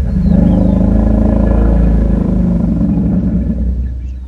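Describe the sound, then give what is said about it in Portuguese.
A deep, sustained elephant rumble, low and throbbing with a steady harmonic drone for about four seconds before easing off slightly; loud, with no voices. A recorded contact call from an unfamiliar elephant, played back to an elephant group. “Algumas gravações são de elefantes conhecidos deste grupo, mas outros sons são de animais desconhecidos.”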